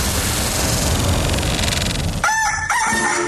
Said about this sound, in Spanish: El gallo.